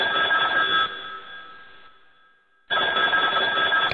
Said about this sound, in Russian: раздается дикий звон. Тёма, ёб, не знал, что это домашний телефон